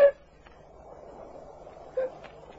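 A little dog barks twice, two short, faint yaps about two seconds apart over a low, steady background hum.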